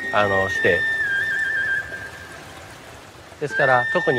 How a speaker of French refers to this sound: Une des spécificités du jardin est la cascade derrière nous. L'eau semble s'écouler directement depuis la montagne Higashi.